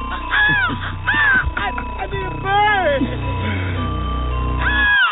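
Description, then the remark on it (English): Several harsh crow caws ring out in irregular bursts, fairly loud, over a steady low rumbling background. “The birds are chirping. I need a bird.”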